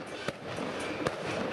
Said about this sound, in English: It is traditional at Chinese weddings to set off fireworks in hopes that the noise will drive away evil spirits. We wanted to update the tradition and used propylene cannons to make a bigger noise.